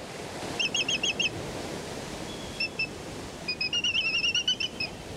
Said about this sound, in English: These graceful giants are black-footed albatrosses, flying by the thousands near the edge of the continental shelf.